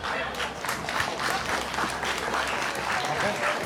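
Sustained applause from an audience, a dense, steady patter of many hands clapping at an even loudness throughout, with no break and no voices rising above it.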